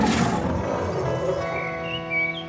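A lion's roar bursts out loud, then trails off into a long, fading rumble, with faint high chirps in the background near the end. No one speaks.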